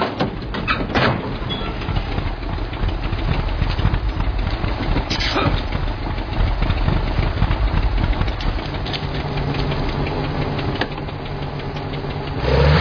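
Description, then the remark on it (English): A car engine idles with a steady low rumble, its pitch wavering slightly before it swells louder in a brief rev at the very end. “All right, let's stop the car. Let's get this thing running properly.”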